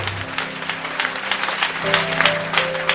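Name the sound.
audience clapping hands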